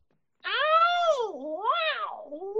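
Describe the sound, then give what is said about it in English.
A loud, drawn-out, cat-like martial arts yell from a human voice, as used in Jeet Kune Do, mimicking a cat's wail. After a brief silence it swoops up and down in pitch twice, with no other sounds. “And they create the voice. The voice is really powerful. It's like a cat, you know?”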